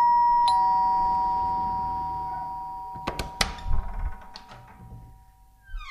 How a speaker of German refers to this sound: Neulich in der Oberbaumstraße. Diesmal klingeln wir bei irgendeiner Brillenschlange.